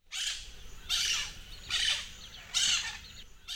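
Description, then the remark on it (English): A big green, blue and yellow parrot squawks in four harsh, bright bursts spaced roughly evenly apart, loud, with no talking. “It's a parrot. It's a big parrot.”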